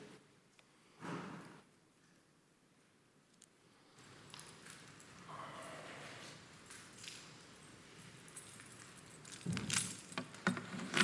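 A load of keys strapped to a person jingles and clinks in short, scattered bursts as they come to address a board meeting for the Marysville Unified Teachers Association, with soft rustling and room noise around it and a louder jangle near the end.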